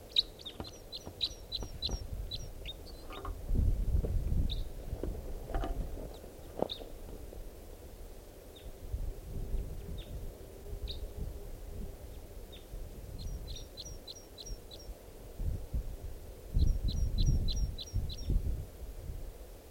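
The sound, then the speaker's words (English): At 6:32 p.m., a bird sings in song flight, giving quick runs of high, thin, evenly spaced notes in three bursts with scattered single chirps between, over a steady low rumble; two birds, males singing and displaying. “Sounds like a type 2 step. Song flight. Here comes the bird. Two birds.”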